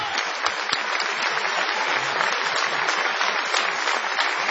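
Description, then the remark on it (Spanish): Sustained applause from a large audience, a dense steady wash of clapping that stays loud and even throughout with no pauses. “Vamos a extender este cariñoso aplauso”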